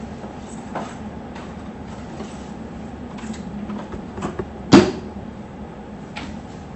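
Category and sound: vehicle, passing train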